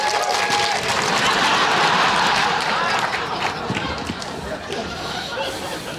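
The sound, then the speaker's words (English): An audience applauds steadily for several seconds to vote for the speaker's list in a contest over whose list was better, a dense wash of clapping hands, fairly loud, with some faint cheering and chatter mixed in before it begins to thin out. “Applause for my list.”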